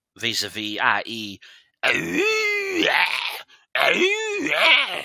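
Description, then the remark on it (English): A person imitates a Bigfoot call with three loud, drawn-out vocal howls, wavering groans rising and falling in pitch, separated by brief pauses, strained. “Probably didn't help none that I kept making my world-famous Bigfoot calls.”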